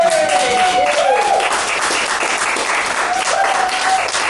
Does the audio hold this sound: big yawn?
no